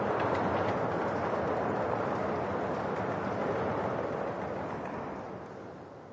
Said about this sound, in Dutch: En als je even mee wilt doen met kloppen. En nou zijn de mensen die in de banken zitten, zijn in het voordeel. Want op deze stoelen kun je niet moeilijk kloppen. Klop even op dat randje voor je, dat we even dat geluid horen.